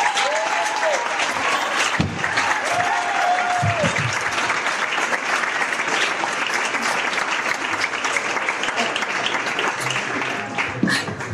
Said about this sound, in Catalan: A la 3, tots aplaudim. 1, 2, vai!